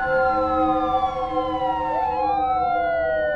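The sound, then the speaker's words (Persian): Several police car sirens wail at once, loud, their overlapping tones gliding and crossing in pitch over a faint rumble of engines, as five or six police cars drive into the yard of a house. “5-6 تا ماشین پلیس اومدن تو حیاط.”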